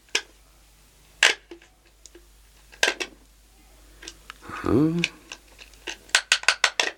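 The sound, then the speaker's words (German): Sharp mechanical clicks and ticks of the combination dial of an office safe holding pearls being turned to open it, spaced irregularly, then a quick run of clicks at the end, with a short burst of voice midway. “Der Panzerschrank ist mit einem Kombinationsschloss gesichert.”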